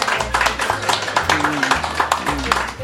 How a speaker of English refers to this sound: Round of applause was not loud enough for you again, Chaz Ebert.